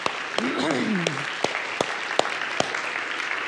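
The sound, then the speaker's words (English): An audience applauds a team of high schoolers who played at a Sunday morning church service, in a steady, dense wash of clapping that carries through the whole stretch, with a few sharper claps popping out and a brief voice cutting in near the start. “So I'm going to give them one more round of applause.”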